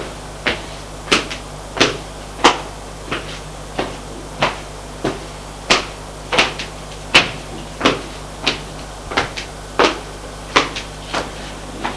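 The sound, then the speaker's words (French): A door is pushed against and clatters open, with a steady series of sharp wooden knocks repeating about every half second, fairly loud, with no voices. “Le pousse contre une porte qui se pousse.”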